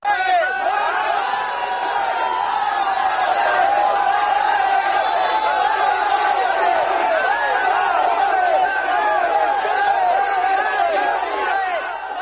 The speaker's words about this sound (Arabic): في أفغانستان سار أيضا آلاف المتظاهرين في العاصمة كابول وأحرقوا الأعلام الإسرائيلية ورددوا هتافات مناوئة للولايات المتحدة.